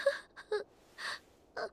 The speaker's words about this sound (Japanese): オストお姉ちゃん、リーシェお姉ちゃんが泣いてるの。